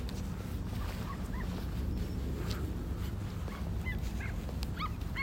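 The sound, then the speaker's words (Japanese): Several short, high-pitched dog barks and yips ring out sporadically over a steady outdoor rumble of wind and traffic in the streets of Toyosu, clustering toward the end. “めっちゃ犬吠えてる。”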